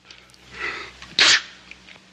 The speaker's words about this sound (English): Sounds like you're getting a cold, Grandfather. Sound like a fake sneeze.